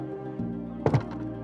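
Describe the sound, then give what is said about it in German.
A small door opens with a brief wooden thunk and a short rattling knock, heard over a steady, humming musical tone that continues throughout. “Vorsichtig öffnen wir die kleine Tür und treten ein.”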